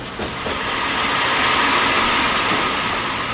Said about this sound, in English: Soon they heard a puffing, chugging noise. A big black engine arrived in the station in a great cloud of steam and came to a stop.